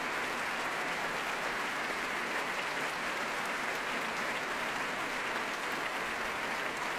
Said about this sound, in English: I must say that Gusapin has returned again, applauding the orchestra and bowing again to the audience.